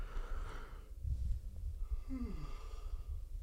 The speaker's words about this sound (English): Oh, take a big yawn there because it's late here on the East Coast. It's about 2:36.